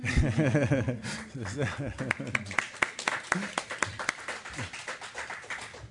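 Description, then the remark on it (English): A man speaks briefly at the end of a speech, then an audience breaks into applause, a loose scattering of handclaps at an irregular pace, moderately loud, continuing to the end. “I'm tempted to applaud.”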